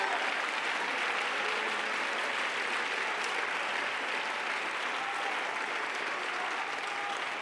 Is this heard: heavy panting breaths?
no